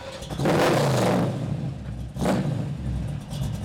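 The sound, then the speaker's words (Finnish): The 5.7-litre V8 engine of a 1972 Chevrolet Camaro Supersport with a 3-speed automatic gearbox revs hard twice, a long roaring burst then a shorter one, over a steady low idle rumble, with no voices. “No joo, mulla on tommonen vuosimalli ja 1972 Chevrolet Camaro Supersport, jossa on 5,7 litran V8-moottori ja 3-vaihteinen automaattilaatikko.”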